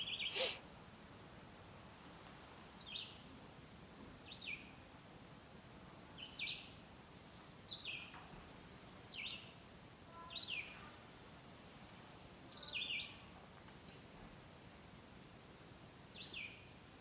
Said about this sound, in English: Anyway, so for a city boy like me, this is quite an escape. Crickets. Birds, flies.